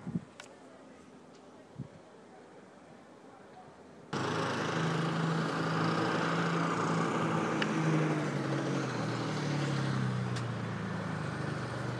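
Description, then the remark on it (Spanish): After a few quiet seconds, loud motorbike and quad engines roar in abruptly at night in Gira and keep droning steadily as the vehicles pass constantly, their buzzing pitch rising and falling. “Aquí de noche es el ruido de estas motos y de los quads que están pasando por aquí constantemente”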